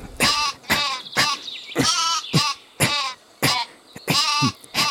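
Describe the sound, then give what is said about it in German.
Sheep bleat repeatedly, a rapid series of about nine loud, wavering calls in quick succession, with no voices present. “Flicken Sie etwa gerade dieses Schaf?”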